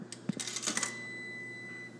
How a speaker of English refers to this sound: And then they've got coins, and we'll see if we can hear the coins going in there.